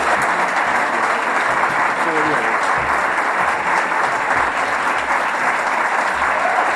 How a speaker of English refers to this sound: It's a good round of applause.